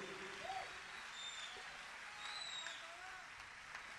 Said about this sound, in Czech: fuerte el aplauso para él.